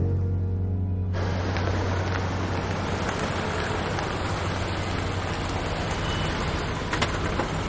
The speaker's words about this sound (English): parks her car and gets out.